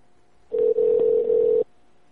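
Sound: telephone call ringing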